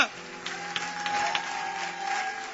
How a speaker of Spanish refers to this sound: ¡Vamos, aplaude a Dios por su gracia!